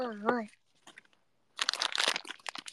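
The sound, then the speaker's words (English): A voice speaks briefly, then faint rustles lead into loud crinkling and crackling of wrapping paper as a present is unwrapped, a dense burst of rapid papery crunches lasting over a second. “This is the wrapping paper.”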